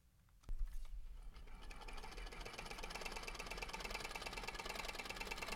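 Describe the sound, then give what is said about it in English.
A Bell & Howell film camera, a few decades old, in the Hugh Hefner Moving Image Archive underneath the Norris Theater, starts with a click, then runs with a steady, rapid mechanical whirring and clatter that holds an even loudness to the end. No voices. “That's the classic sound of a Bell & Howell film camera.”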